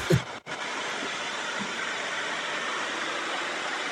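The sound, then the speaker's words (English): A steady wash of white noise, heard between album entries of a countdown, hisses evenly across the whole clip, broken only by a brief low thump and a split-second dropout right at the start. No voices. “I like the white noise in between albums.”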